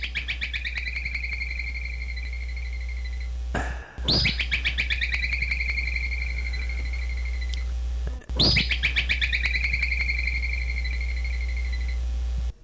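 A groundhog (woodchuck, nicknamed whistle pig) gives its warning whistle to warn others of nearby predators, repeating three times: shrill, high-pitched calls that start with a sharp burst and hold steady for a few seconds, with short gaps between them and no talking.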